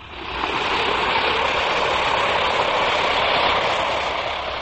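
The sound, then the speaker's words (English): An Alka-Seltzer tablet fizzing: a dense, steady hiss of tiny crackling bubbles that swells in within the first half second, then holds at an even, fairly loud level with no voices. “Now, listen to it fizz.”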